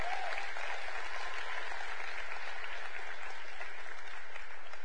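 A church audience claps steadily for tithes and offerings in a dense, continuous wash of applause that holds at an even, fairly loud level for about five seconds, with no voices rising above it.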